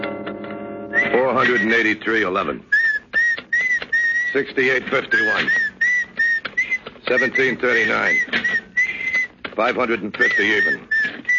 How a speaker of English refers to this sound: Stop that creepy whistling, will you? I'll fix your whistle so it'll never blow again.